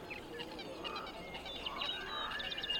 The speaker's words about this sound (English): There's only one sound that makes it through the filter. Birdsong. Birdsong makes it through.